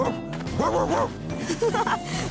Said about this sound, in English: But dogs can wag their tails and bark and jump.